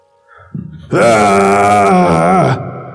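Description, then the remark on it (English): A person lets out a single loud, sustained, strained scream lasting over a second and a half, rising from a brief low grunting build-up and then cutting off abruptly. “And you scream out.”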